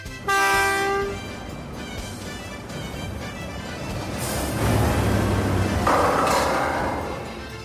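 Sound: train passing with horn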